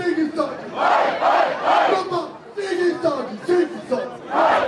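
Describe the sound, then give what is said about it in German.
A large crowd cheers and chants in loud, rhythmic bursts at a celebration of a German championship title, with the team celebrating on stage; many voices shout together with a steady roar that swells and dips repeatedly. “Abseits von all dem Jubeltrubel stand Geschäftsführer und Macher Bob Hanning mit einem Lächeln im Gesicht.”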